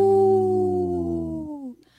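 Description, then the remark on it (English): A person imitates a wolf with a deep, sustained howl that slowly drifts downward in pitch before trailing off, loud, with no other sounds. “I tried a deep howl that time.”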